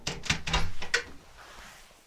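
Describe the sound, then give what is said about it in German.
A door between a stairwell and the ground floor is slowly opened, with a few sharp clicks and creaky handling sounds over about a second, then settles into a quiet, faint room tone. “Langsam öffnete er auch diese Tür.”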